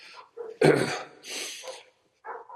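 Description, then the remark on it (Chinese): Four dogs bark angrily while charging at someone, in a few harsh, uneven bursts, one loud sharp bark followed by several rougher, quieter ones, with short pauses between and no talking. “然后四个狗对他义愤填膺，满腔怒火的冲过去了，凶巴巴的，四个都凶巴巴。”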